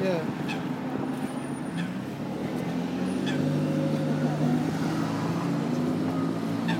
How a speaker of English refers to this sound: Can you hear the ducks?